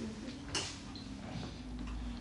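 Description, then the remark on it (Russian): A door creaks as it swings shut, a short strained squeal with a brief knock near the start, fairly quiet against a steady low hum. “А можно дверь закрыть?”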